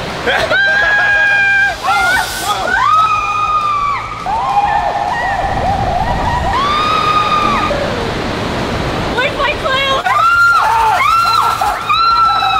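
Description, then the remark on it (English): A steady wash of rushing water and crowd babble at Kalahari Indoor Water Park, the largest indoor water park in America, with its giant water slides. Shouts and high children's calls rise over it. One person briefly speaks above the noise. “So we're at Kalahari Indoor Water Park.”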